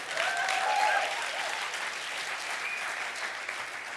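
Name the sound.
audience clapping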